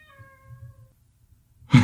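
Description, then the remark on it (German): A door creaks in a drawn-out, slightly falling whine with a low grinding rattle beneath, fading out, followed moments later by a short, loud bump. No one speaks. “Das war eine Tür, eine knarzende Tür.”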